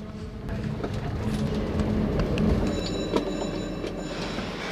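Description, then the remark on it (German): A Zugspitzbahn rack railway train rumbles steadily as it rolls into Gletscherbahnhof Zugspitzplatz, the terminal station of the rack railway, its low mechanical drone joined by faint high metallic whines and occasional clanks. “Gletscher Bahnhof Zugspitzplatz, Endstation der Zahnradbahn.”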